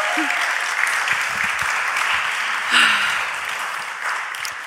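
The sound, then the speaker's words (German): A live crowd claps steadily throughout, a dense, continuous wash of many hands with a brief swell near the middle and faint voices and whoops mixed in. “Habt ihr schon geklatscht?”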